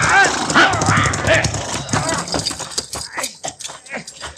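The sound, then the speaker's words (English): A horse squeals and whinnies in distress as it is shot amid gunfire, over a dense, noisy commotion with shouting voices mixed in and hoof-like clatter, loud throughout. “He didn't get me. He got my horse, but I'm pinned down.”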